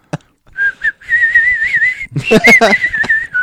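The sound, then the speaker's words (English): A person whistles a wavering, sustained tune at moderate loudness, with short notes leading into a long warbling tone, then a burst of overlapping sounds and voices before the whistle resumes. “You'll just get the audio, but he's whistling out of his ass.”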